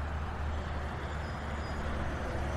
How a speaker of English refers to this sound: But then a giant truck just whizzes by you and that peace is gone. And you're reminded, oh yeah, if I walk too close to the fence, I could get hit by a car.